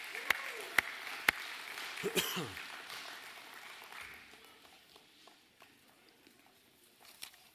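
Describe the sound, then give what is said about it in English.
A round of applause at a church service before the offering is collected in buckets: a dense patter of clapping with a few sharper claps standing out, loudest at the start and gradually thinning and fading over several seconds, with faint background voices. “So with the big round of applause, let's come and give this morning up here in the buckets.”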